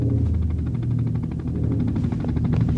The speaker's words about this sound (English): Oh, there's my helicopter.